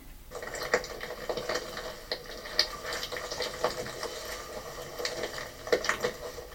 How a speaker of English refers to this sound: So there's Lord Howe Island birds crunching with the sound of plastic inside their bodies.